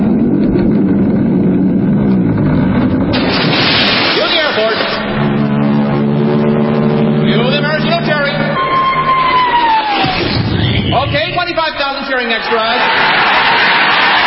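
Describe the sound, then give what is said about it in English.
A staged sequence of radio sound effects: a droning aircraft engine passes, a Royal Canadian Air Force plane towing a 10-ton maraschino cherry; a falling whistle leads into a big splash as the cherry drops into whipped cream; and a loud cheering crowd of 25,000 extras swells at the end. “Then the Royal Canadian Air Force will fly overhead towing a 10-ton maraschino cherry, which will be dropped into the whipped cream for the cheering of 25,000 extras.”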